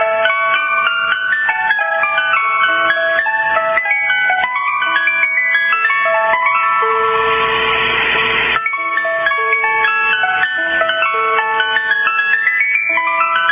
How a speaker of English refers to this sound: Ah, the familiar sound of the ice cream truck. You know it. You ran down the street. You went to go get those popsicles, those creamsicles, those ice cream cones, right?